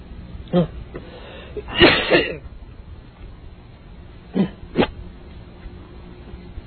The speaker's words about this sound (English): Anybody have any whiskey? Need to clear my throat.